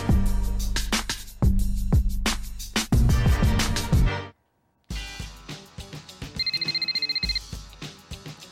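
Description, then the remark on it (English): A single short burst of trilling telephone ring, rapid and bright, as a call is placed to GM Jalen, rises over quieter background music after a loud musical passage cuts off into a brief silence. “Let's get GM Jalen on the phone.”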